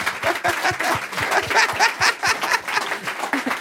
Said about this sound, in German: Trau dich, begleitet von einem Applaus.